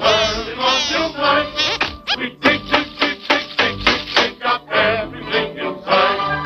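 A rapid series of small, sharp metallic taps, around a dozen in quick even rhythm, as a miner in a mine inspects huge gleaming diamonds with a tiny hammer, over steady background music.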